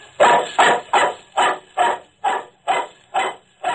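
A dog barks nine times in a steady, evenly spaced rhythm, each bark loud, with no voices in between.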